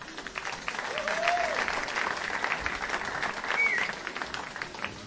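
Steady audience applause at a poetry reading welcomes another poet from Tübingen, a dense wash of clapping that swells slightly midway, with a couple of brief whistles cutting through.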